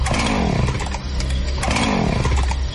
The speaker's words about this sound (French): Regarde dehors, il y a un monsieur bizarre avec une scie mécanique et un masque.